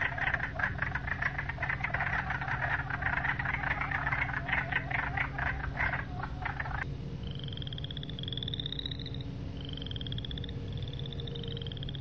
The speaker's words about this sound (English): And you'll notice that the wood frog sounds just a little bit like a quacking duck.